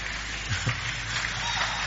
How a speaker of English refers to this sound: Give Him a big, big clap and take your seat tonight.